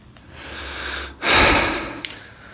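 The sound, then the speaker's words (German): A heavy snorting breath rushes straight into the microphone, a loud breathy burst lasting about half a second after a quieter exhale, with no talking. “Schnaufen und Mausrollen geht gar nicht.”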